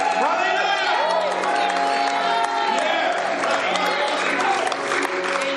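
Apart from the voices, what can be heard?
audience cheering and applauding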